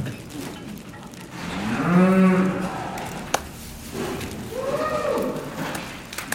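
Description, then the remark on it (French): A cow in a barn moos twice while being checked for pregnancy, a long low harmonic call followed a few seconds later by a shorter second moo, with faint background noise and a brief knock. “Je suis en train de vérifier si cette vache est gestante, c'est-à-dire si elle a un petit veau dans le ventre.”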